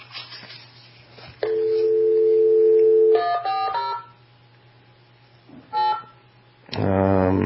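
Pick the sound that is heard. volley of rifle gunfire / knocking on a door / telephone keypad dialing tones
telephone keypad dialing tones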